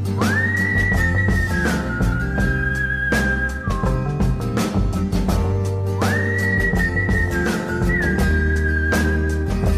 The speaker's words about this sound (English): I can never whistle like you.